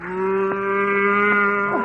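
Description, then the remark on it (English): A cow gives a long, steady moo lasting nearly two seconds, loud, with a deep sustained tone that bends slightly at the end. No one speaks over it. “what are you doing with that cow?”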